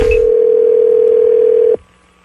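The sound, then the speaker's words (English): An outgoing call to a therapist, made to book an appointment, rings through the phone line: one steady, loud electronic ringback tone that holds for nearly two seconds, then cuts off into near silence. No one speaks. “We're going to be calling a therapist named Marcus”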